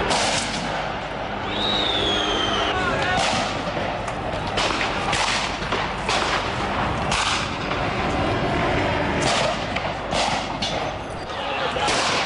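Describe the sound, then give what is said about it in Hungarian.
Police fire tear gas launchers again and again: sharp booming thumps at an uneven rhythm over a constant roar of crowd noise, with a brief high whistle early on. “A rendőrök folyamatosan könygázlövedékeket lőnek, mi is egy kicsit ezt a részét kaptuk el, a füstöt.”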